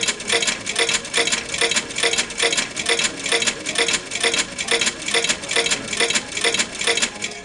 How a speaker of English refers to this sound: Now, the third bet I'm going to do, I'm actually going to bet everything. So I'm just going to keep pressing the left shift key.